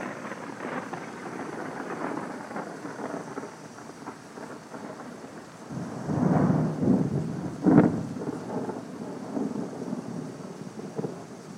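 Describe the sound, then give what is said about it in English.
Thunder from an approaching storm rumbles low and rolling, swelling twice to deeper, louder peaks midway, over a steady wash of rain and light wind with no voices, recorded while sitting on a swing. “We are sitting on the swing and we have a storm rolling in. And we're going to see if we can get some more good thunder.”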